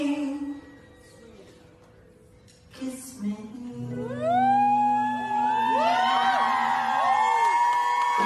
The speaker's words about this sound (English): And then they make out and the crowd goes wild.